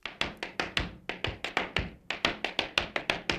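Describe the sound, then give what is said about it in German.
Rapid tap-dance steps from an audio recording played on a mobile phone click and clatter in an uneven syncopated rhythm, bright sharp heel and toe strikes with quick doubled taps, with a thin, slightly tinny quality and no voices. “Du hast auf meinem Handy ein Audio angeschaltet, wo jemand steppt.”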